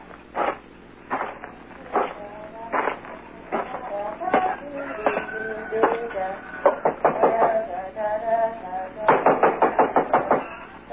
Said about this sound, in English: Don't be knocking.